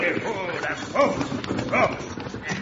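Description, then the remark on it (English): Horses' hooves clip-clop steadily and slow to a stop as a driver is ordered to halt his horses during a holdup, a run of clattering beats over a low rumble, with voices heard underneath. “Now stop them horses.”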